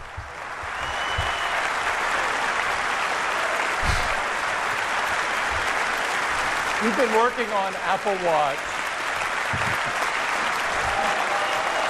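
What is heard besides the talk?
audience applause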